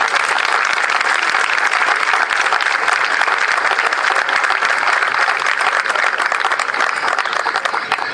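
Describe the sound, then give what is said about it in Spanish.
Sustained applause from an audience for representatives of the Centro Vasco dance group and the Casa Vasca, a dense, loud patter of many hands clapping steadily for several seconds without letting up, with no voices standing out. “A ellos un aplauso, por favor.”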